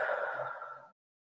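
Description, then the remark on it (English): A single deep, breathy exhale, airy and steady for just under a second before cutting off into silence. No one speaks. “Breathing deeply”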